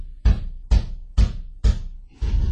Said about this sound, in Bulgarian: Ами нека пък чукат, докато се уморят. Сина на баща ми не е дошъл на този свят, за да отваря врати.